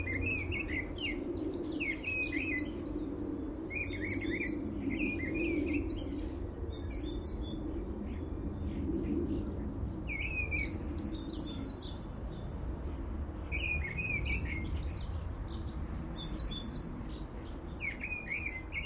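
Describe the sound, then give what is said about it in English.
A thrush sings in short, repeated phrases of bright, varied notes, with brief pauses between bursts, over a steady low rumble of background noise. Nobody speaks. “Yeah, that's a thrush. It's got to be.”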